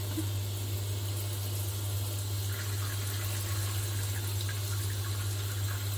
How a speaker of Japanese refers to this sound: あ、にしたってこのシャワーが熱いな。